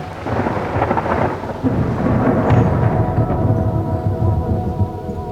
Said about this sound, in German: Und dann gab es auch noch ein kräftiges Gewitter.